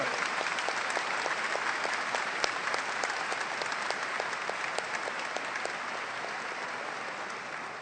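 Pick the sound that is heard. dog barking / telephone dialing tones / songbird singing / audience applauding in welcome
audience applauding in welcome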